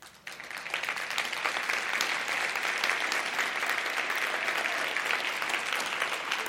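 A room full of people claps steadily, a dense, sustained wave of applause that swells in after a brief pause and holds at an even, fairly loud level throughout.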